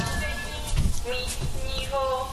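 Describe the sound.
A village public address loudspeaker announcement heard over a phone call, its amplified voice muffled and indistinct beneath a steady background hiss.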